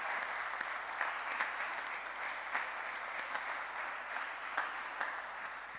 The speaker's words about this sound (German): Herzlichen Glückwunsch und herzlich willkommen. Ich denke, von der Gemeinde darf es einen Applaus geben. Ja.